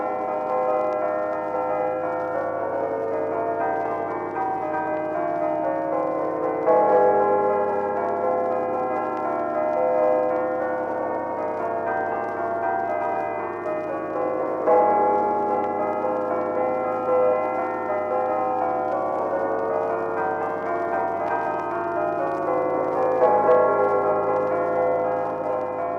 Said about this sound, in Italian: in un qualsiasi paese della Svizzera italiana ci sono delle campane e suonano una più volte al giorno, ecco.